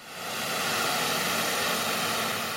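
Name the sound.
white noise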